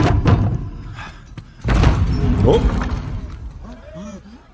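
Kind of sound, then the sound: household object, door slamming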